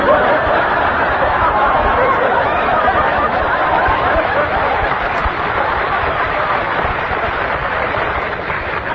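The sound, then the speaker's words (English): A large crowd cheers and clamors for Robert Fulton in a dense, steady roar of many voices, loud and unbroken for the whole stretch, with scattered laughter mixed into the din. “Listen to the crowds cheering.”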